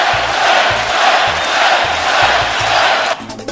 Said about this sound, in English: And the crowd is chanting Clay.